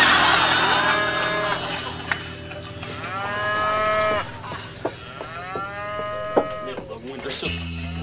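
A cow moos several times in long, drawn-out lowing calls that rise and fall in pitch, over a steady low background rumble.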